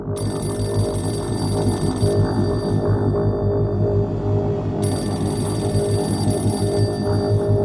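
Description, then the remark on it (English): A telephone bell rings loudly and continuously at home, a dense, rattling metallic trill that persists without pause for several seconds, unaccompanied by any voices. “Phone rang.”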